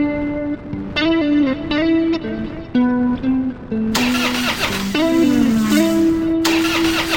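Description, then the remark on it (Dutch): A loud car engine splutters to life and keeps running, its whining tone jumping between pitches before settling into a rougher, fuller roar in the second half. The engine is new and still being run in. No voices. “Ja, dat is die ook, maar de motor moet nog een beetje inkomen.”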